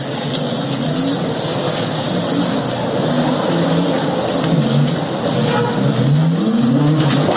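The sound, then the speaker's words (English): A locally built electric car, its body cast from ground cow hoof and bamboo mixed with binders, has a motor that hums steadily, its pitch repeatedly rising and falling as it speeds up, with a constant background rumble and no talking. “A member of his team, Korea Vincent Ibuabuchi, who worked on the electrical aspect of the car, also sheds more light on the production of the vehicle.”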